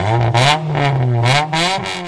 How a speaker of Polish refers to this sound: kontrolują dźwięk pojazdu, czy nie przekracza decybeli odpowiednich i wtedy, jeżeli policjanci potwierdzą głośny dźwięk z tłumika, wtedy jest zatrzymywany dowód rejestracyjny, wtedy kierowca musi poddać badaniom technicznym pojazd.